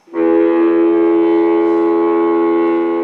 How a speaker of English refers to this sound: As you can tell, that's a foghorn. It makes a difference.